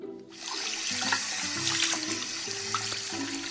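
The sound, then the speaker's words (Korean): Tap water runs steadily into a sink with a broad hiss, broken by shifting splashes and low tonal gurgles as salted mackerel is rinsed clean under the stream. No one speaks. “자반 고등어를 물로 깨끗이 씻은 뒤 반씩 토막내서 넓은 냄비에 퍼놓는다.”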